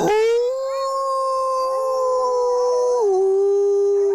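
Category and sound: animal, grey wolf howling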